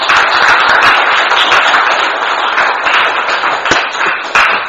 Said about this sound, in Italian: Un bel applauso.